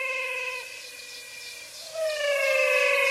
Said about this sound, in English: I recorded these frogs in the Pantanal. The Pantanal is a floodplain, or what I'd call a big swamp. It's mainly Brazil, but extends into Bolivia and Paraguay.